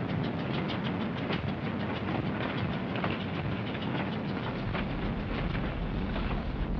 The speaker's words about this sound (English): The train's loaded with war wearies going back for salvage, loaded with supplies for the front.